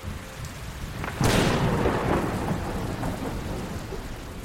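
nature, thunder rumbling with rain

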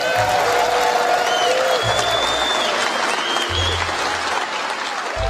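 crowd, audience applause

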